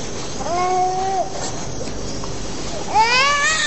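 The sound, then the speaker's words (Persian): A well-fed baby in clean clothes cries in two drawn-out wails, one early and one toward the end, with a short pause between them over a steady background hiss. “چرا گریه میکنه؟ نمیدانم، هم شکمش سیر است و هم لباسهایش تمیز.”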